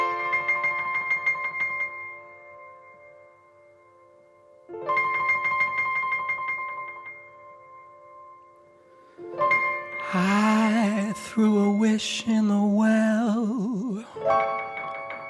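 A cover of a pop song begins with two ringing, bell-like chords separated by pauses, then swells into a dense, wavering, effects-heavy passage with sliding vocal-like tones.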